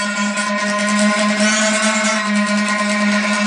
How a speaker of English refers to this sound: your car wheels run and glisten over that and make this kind of sound